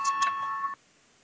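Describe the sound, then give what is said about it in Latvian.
A parliament voting signal bell rings with a clear, steady electronic tone, struck twice in quick succession to call a vote on proposal 87, then stops abruptly after under a second, leaving near silence. No one speaks. “Lūdzu, zvanu balsosim par 87. Deputātas Papūs priekšlikumu”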